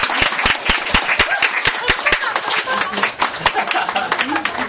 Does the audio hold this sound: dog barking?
no